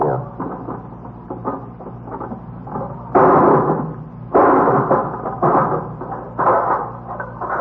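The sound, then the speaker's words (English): Metal clanks and rattles from a hammer knocking at the lock on a box whose key cannot be found, with a steady run of small taps and a few louder, harsher blows as the lock is broken open. “You gonna break the lock?”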